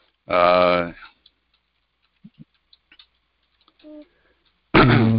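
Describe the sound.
A handful of soft, irregular keyboard taps click away in a quiet pause as someone types a message to a person asking a question, bracketed by a voice speaking briefly at the start and again at the end.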